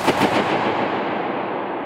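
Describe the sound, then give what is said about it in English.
A single balloon bursts inside a dome with a sharp, loud pop, followed by a long, washing reverberation that circles the dome's curved walls and slowly fades away. No voices are heard. “Bursting a balloon was one of his favorites.”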